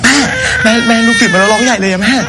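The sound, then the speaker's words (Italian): A baby cries loudly and without pause in a video circulated online, a continuous wavering wail that rises and falls in pitch, clear, with no one speaking over it. “Questo, ad esempio, è un video che è circolato in rete. Un bambino piange, il papà cerca di fare qualcosa, chiama la mamma.”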